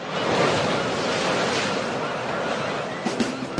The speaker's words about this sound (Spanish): Para que las únicas olas que escuches sean las del mar.